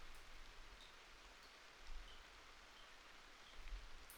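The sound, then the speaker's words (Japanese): Rainwater from a leaking roof drips into several buckets against a steady, soft hiss of rain, with a couple of faint low plinks standing out; the drips form a melody-like pattern. Quiet, with no voices. “雨漏りの音につい聞き惚れちゃいました。”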